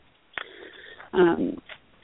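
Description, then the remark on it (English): Close, breathy exhalations right up against a phone microphone, with a short airy rush and a louder, rougher breath in the middle, narrow-band and muffled like a telephone line. “Your breathing is, we're hearing you breathing.”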